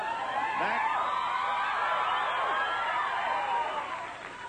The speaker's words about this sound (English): I've figured out what that second burst of applause, what caused it.